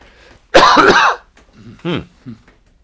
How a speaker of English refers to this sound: Let me cough one more time, John, and I'll be okay.